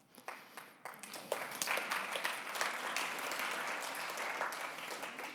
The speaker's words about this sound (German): Aber der Applaus galt nicht dir, sondern ihm.